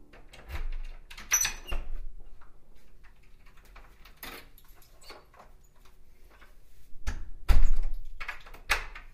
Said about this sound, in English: It is around 10 p.m. when Jules hears the front door slam, signalling Baz's return.